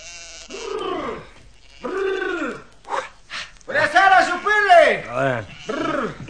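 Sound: flock of sheep bleating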